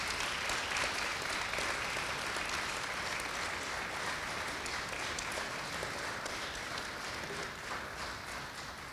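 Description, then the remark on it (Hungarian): Sustained applause from an audience for the members of the band (zither band) fills the whole stretch, a dense steady patter of many hands clapping at an even level before easing slightly toward the end. “És ha minden igaz, itt vannak a Citera Zenekar tagjai, őket is illeti egy nagy taps, ha jól tudom.”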